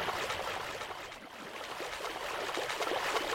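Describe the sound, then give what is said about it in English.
Continuous sloshing and splashing of shallow water in a video game, with faint irregular splashes of footsteps as the player walks through the shallow far north of an ocean map. No voices. “But the far north of this ocean map, which I'm in right now, is shallow, which I'm walking in, and I can just walk all the way east across this map until I reach the eastern map border, which will be another travel point into the very wet rainforest.”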